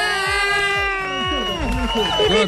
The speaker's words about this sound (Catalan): També aplaudiment